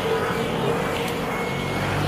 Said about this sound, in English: Oh, I do love a nice loud moped.